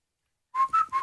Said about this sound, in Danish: Men vi vil jo ikke fløjte, for Signe bryder sig ikke om fløjten, så derfor blev det til en dy.